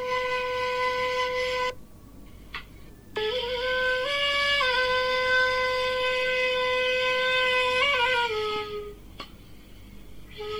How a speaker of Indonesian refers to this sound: Suara suling.